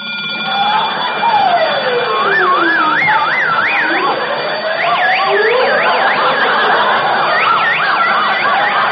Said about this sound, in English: I forgot to turn off the alarm.